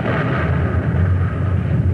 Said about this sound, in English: You must have heard that explosion. Directly ahead of us, a great blob of light has just bleached and reddened the sky, tearing the night into shreds. It was followed by that blast, more sullen and deafening than any we have so far heard.